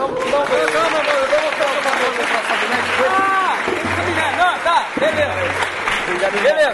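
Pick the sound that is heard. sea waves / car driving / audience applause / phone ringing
audience applause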